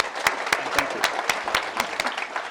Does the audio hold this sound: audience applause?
yes